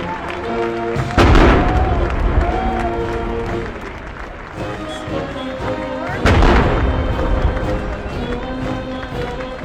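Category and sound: impact, ceremonial cannon salute shots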